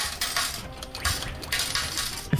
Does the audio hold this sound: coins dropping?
yes